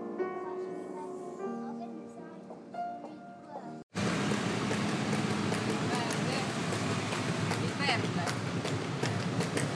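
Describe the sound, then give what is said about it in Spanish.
Soft live piano notes give way abruptly to an outdoor scene in Palermo where a horse's hooves clip-clop steadily as it pulls a small carriage carrying a passenger around the city, with traffic noise and faint voices around. “Pues eso que se oye son los cascos del caballo que va llevando la carrocita esta en la que me he subido para darme una vuelta por Palermo.”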